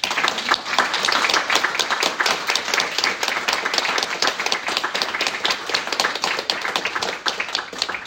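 An audience applauds steadily for several seconds, many hands clapping in a dense, loud patter that holds an even level throughout, with no talking over it.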